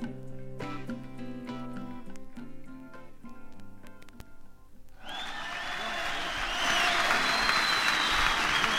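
A song with sustained tonal notes ends, and then loud, dense audience applause breaks out and keeps building, a broad wash of many clapping hands with scattered cheers.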